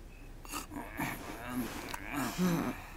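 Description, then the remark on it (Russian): Someone snores in a steady rhythm, several rough, breathy rasps with a low throaty drone, moderately loud and with no talking over them. “Ну ладно, спи, храпун.”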